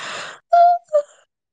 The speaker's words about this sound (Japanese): めっちゃあくび出るやん。